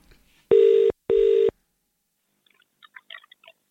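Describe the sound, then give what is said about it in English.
A Zoom phone call being dialed: two loud, steady electronic tones beep in quick succession, followed by quiet and a few faint scattered clicks near the end. No one speaks. “We're going to start the call now.”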